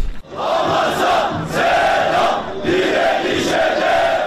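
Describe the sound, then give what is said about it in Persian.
A large crowd at an anti-Israel protest in Istanbul, Turkey chants in unison, voices rising and falling in a steady repeated rhythm of about four phrases, loud and continuous with no pauses. “در شهر استانبول ترکیه هم تظاهرات ضد اسرائیلی برگزار شد.”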